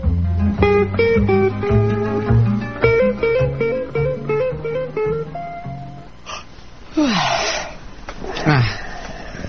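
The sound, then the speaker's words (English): A musical theme plays for several seconds, then fades into a few rasping, breathy snores from a sleeping person, each a noisy burst. “You snore, you know.”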